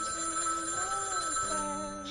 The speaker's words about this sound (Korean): 집에 전화가 울리는 거예요. 집에 전화 종소리가 울리는 거예요.